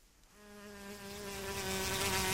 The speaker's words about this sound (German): Da summt sie wieder. Die schmalköpfige Schmalbiene galt in Hessen als ausgestorben, bis sie nun im Wissenschaftsgarten der Uni Frankfurt wiederentdeckt wurde.